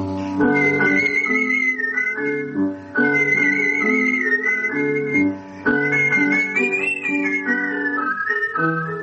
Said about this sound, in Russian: А занятие художественным свистом так и осталось хобби, увлечением, растянувшимся на 60 лет.